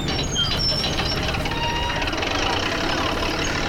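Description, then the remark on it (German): Heavy machinery at a work site by a bay, seen from a distance: a large crane lifts huge plastic panels from a truck, its engine rumbling steadily while high-pitched warning beeps chirp intermittently above it, with indistinct voices in the background. “Von Weitem konnte man einen großen Kran erkennen, der riesige Kunststoffscheiben von einem Lastwagen hiefte.”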